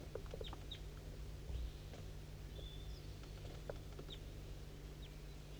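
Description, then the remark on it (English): Faint calls of a wild bird down a hollow to the west come in scattered short chirps and clucks, irregularly spaced, on a foggy morning at 8:15 a.m., over a steady low outdoor rumble, with no voices. “I'm pointing towards a wild bird. It's down the hollow, straight west.”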